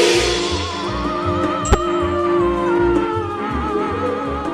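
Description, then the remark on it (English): A science fiction sound effect from Star Trek: a steady electronic hum with a regular pulsing low throb, wavering high tones drifting over it, and one sharp zap partway through. No one speaks. “Well, they are, of course, sounds from Star Trek, but why is there a connection between the sci-fi classics and the sound of frogs?”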